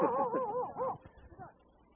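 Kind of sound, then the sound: animal, dog barking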